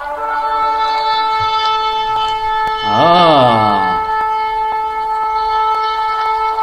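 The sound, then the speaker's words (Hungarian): A single loud blast on a ram's horn shofar: a raw, brassy tone that swells upward, wavers and sags back down over about a second, rising above a steady low hum. “Méghozzá ez kosszarból készült sofár kürt, és megfújták, és ezzel indult ez a nap.”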